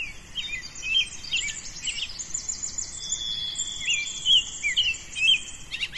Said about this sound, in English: And somehow it sounds different. And really, like, you can hear how lively all the bird song is right now. They have a lot to say. It's like their first communication of the day. They're just waking up.